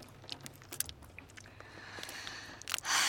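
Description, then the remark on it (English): Crisp popping and crunching as a small muscle knot is loosened: a scatter of sharp clicks and gritty crackles, irregular and fairly quiet, ending in a louder hissing burst. “That is all this week's stress popping and grinding and crunching out of you.”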